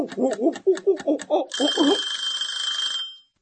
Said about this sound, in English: What was that? Your luck running out. No, it sounded more like an egg timer.